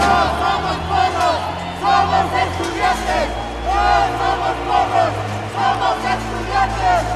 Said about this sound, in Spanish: Esta protesta, a la que se han unido diversas organizaciones civiles, sindicales y también estudiantiles bajo un mismo objetivo